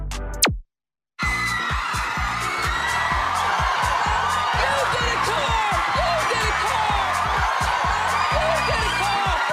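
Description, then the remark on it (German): After a brief moment of silence, Oprah Winfrey shrieks excitedly over a loud, dense audience of The Oprah Winfrey Show that cheers and screams continuously as she ends her talk-show career by giving her audience gifts. “Die kreischende Dame ist Oprah Winfrey, Moderatorin, Produzentin und Mastermind der erfolgreichsten Talkshow in der amerikanischen Fernsehgeschichte, der Oprah Winfrey Show.”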